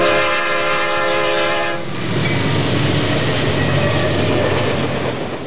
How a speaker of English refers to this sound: A train.